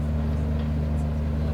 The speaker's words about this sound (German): Es ist noch sehr still. Es ist noch sehr still, genau. Die Töne sind auf einer Fähre.